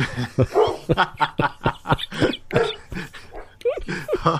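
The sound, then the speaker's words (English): Several dogs bark excitedly in quick, overlapping bursts, close by and fairly loud, keeping up a busy, uneven rhythm from start to finish with a few higher yelps mixed in. “I should never do a Big Bang talk when I'm near the dogs.”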